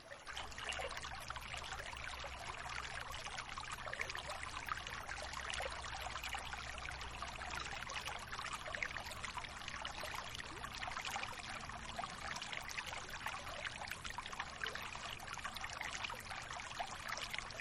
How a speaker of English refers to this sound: Just listen to the sound of the water as it flows through you.